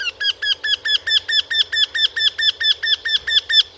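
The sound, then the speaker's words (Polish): A Eurasian wryneck calls in a fast, even series of about fifteen loud, plaintive, slightly nasal whining notes, clear with no other sounds. “Głos krętogłowa to donośne kwilenie złożone z kilkunastu szybko powtarzanych, płaczliwych sylab.”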